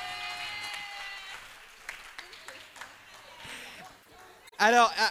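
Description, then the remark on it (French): Scattered claps build from an audience applauding to show how many agree that transport problems are students' main financial worry, then a loud burst of cheering and applause erupts near the end, mixed with raised voices, over a faint tonal hum at the start. “Est-ce que vous pouvez applaudir pour qu'on sente si vous êtes nombreux?”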